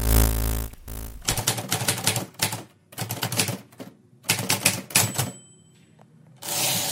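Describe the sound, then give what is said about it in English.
Bursts of rapid mechanical keystrokes on an Erica typewriter, clattering in quick clusters with short pauses between, fairly loud, plus a brief bell-like ding near the end of a line and a carriage shift. “You have accessed entry 424.JB0412, certificate number 37914, the Erica typewriter.”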